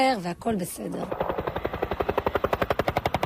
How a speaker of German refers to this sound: Zur Routine gehört auch, dass auf der libanesischen Seite die UN-Schutztruppe UNIFIL ihre Ermittlungen aufnimmt. Mit einem weißen UN-Hubschrauber fliegen Soldaten über der Stelle, von der aus mutmaßlich Raketen auf Israel abgefeuert worden sind.